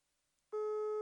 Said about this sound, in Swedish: Okej, då vet vi att han sitter vid telefonen nu. Så då gör vi så att vi ringer honom nu. Ja, nu är upptaget.